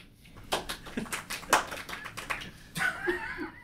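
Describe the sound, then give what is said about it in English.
A small audience claps in a brief, scattered burst of applause after a correct trivia answer, fairly subdued, tapering off as a voice calls out near the end. “You guys can clap louder.”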